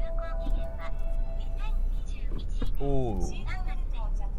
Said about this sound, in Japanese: ということで車のエンジンをつけました。じゃあ発車したいと思います。はい、発車。